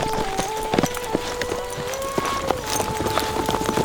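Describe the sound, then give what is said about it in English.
Horses' hooves clop at an unhurried walking pace as the horses step down a steep trail, a string of sharp thuds in a loose, uneven rhythm, with a steady high whistling tone droning underneath. “They stepped the horses down along the steep trail toward the low rolling brush country below.”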